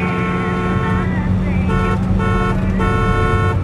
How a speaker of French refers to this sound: Mais ce n'est pas ce qui se passe. À la place, le conducteur fait des appels de phare, puis klaxonne.